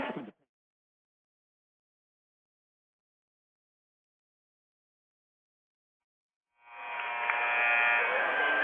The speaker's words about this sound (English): Well, you heard the buzzer. We're back with 3:07 to play in the third quarter. Thayer and Ellington tied at 19, actually tied at 21 here in the third quarter.